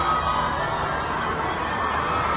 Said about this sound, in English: As promised, we return to, and you can hear the crowds.